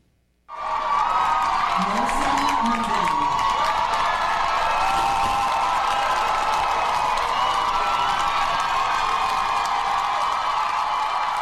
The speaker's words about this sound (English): On Monday, Palestinian student Mohsen Madawi walked across the stage to receive his GS diploma from the Columbia University School of General Studies. Students erupted in thunderous applause. There was a standing ovation.